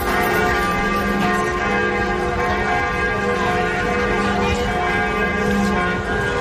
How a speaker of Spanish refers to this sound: En París, en Notre Dame, las campanas han repicado 88 veces en recuerdo a la figura del Papa.